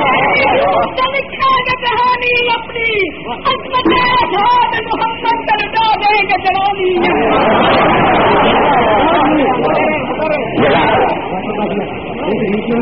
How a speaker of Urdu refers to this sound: وقت بہت سارا ہو چکا ہے, میں یہ چاہوں گا کہ آپ نعرے کم لگائیں اور میرے گزارے کاٹ پر دھیانت دارانہ غور کر لیں.